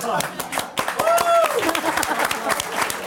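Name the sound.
audience clapping and applause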